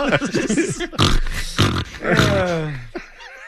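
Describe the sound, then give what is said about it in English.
Loud snoring in several rough bursts, each a guttural snort or grunt with rasping breaths between, rising into a drawn-out nasal wheeze near the end. “That's … snoring.”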